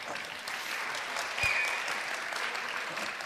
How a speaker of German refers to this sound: Ein Applaus